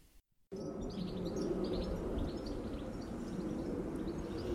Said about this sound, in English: Those are the sounds from my tiny garden, sitting in Bristol. Bird song, the roar of the city beginning in the morning. A plane flying overhead, which is quite unusual.